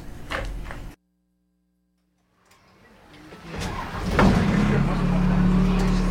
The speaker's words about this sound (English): No, I was in a big old bus. It was a real big old bus from the 1950s, and it made a lot of noise, and so that was a little intimidating to record, but it was a lot of fun.